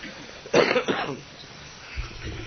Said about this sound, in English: It's not intentional. I have cough.